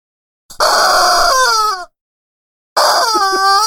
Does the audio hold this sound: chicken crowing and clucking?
yes